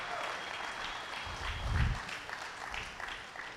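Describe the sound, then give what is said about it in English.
A large crowd claps continuously in praise of the Lord, a dense, steady wash of applause, with a brief low thump partway through and faint voices mixed in. “Come on, give the Lord a hand clap of praise or worship him for a minute.”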